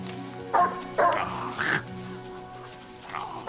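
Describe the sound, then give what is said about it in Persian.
A hungry dog lets out a handful of short, sharp barks and high yips at uneven intervals, moderately loud, over a steady low background hum. “سگت گرسنه. این سگ من نیست.”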